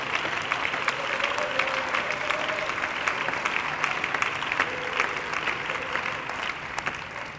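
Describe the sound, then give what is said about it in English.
An audience claps hands together in a dense, steady burst of applause that holds for several seconds, with faint voices murmuring underneath. “Oh, somebody clap your hands and love the Lord in the house.”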